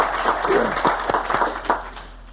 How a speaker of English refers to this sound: I know that my wife has been introduced before, but again, for my privilege, I didn't have a chance to clapping for her. I'd like to give her another hand, all right?